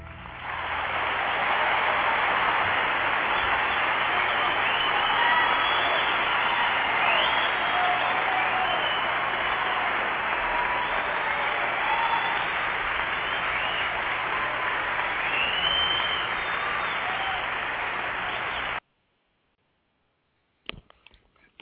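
A large audience claps steadily and loudly for about nineteen seconds, a dense wash of applause with scattered whoops and cheers, then it cuts off abruptly into near silence.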